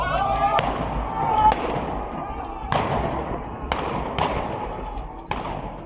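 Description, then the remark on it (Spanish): Six sharp gunshots and tear gas launches crack out at irregular intervals over a steady, noisy crowd din with indistinct voices, fairly loud, as police fire on protesters in Iran. “Lo ha hecho con gases lacrimógenos y con disparos.”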